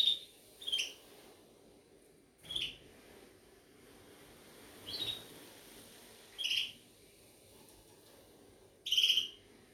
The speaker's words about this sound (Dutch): Het zijn vogels.